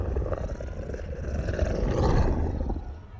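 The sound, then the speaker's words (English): A creature with rows of jagged, razor-sharp teeth, looming over an altar, lets out a deep, rumbling, guttural growl that rolls on for about three seconds, swelling slightly in the middle with a rough, gravelly texture before tapering off. “Its eyes fixed on the young woman, it let out a low, guttural growl.”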